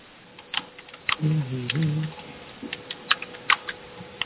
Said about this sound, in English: I'm seeing lots of people typing, which is good for the transcript for the chat record.